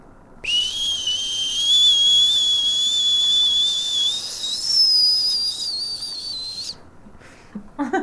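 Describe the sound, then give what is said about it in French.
Someone imitates a boiling kettle with one long, shrill whistle that holds steady for about six seconds, edging slightly higher in pitch before cutting off abruptly, with no talking. “Ça alors, on dirait que vous avez été bouilloire toute votre vie.”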